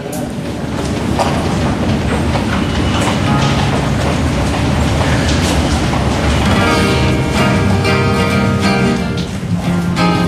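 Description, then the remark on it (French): An RER commuter train rolls along the rails with a loud, steady rumble and rattling clatter, and a thin metallic squeal rises toward the end. “c'est le RER jusqu'à la mer”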